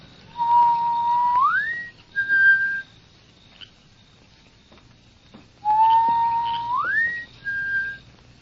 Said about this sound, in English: will hear my whistle.